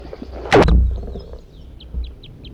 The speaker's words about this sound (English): Those were songs of a wild red crossbill. Almost 8 o'clock a.m. June 1st, 1983, down Poverty Hollow. The bird's not yet captured, but it was in a group of three.